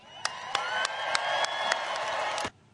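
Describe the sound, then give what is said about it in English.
An audience applauds and cheers a Supreme Court decision in a dense, steady roar of clapping mixed with raised voices and a few sharp whoops, holding at a loud level before cutting off abruptly. “They are fucking applauded. The white people cheered for a victory for white life.”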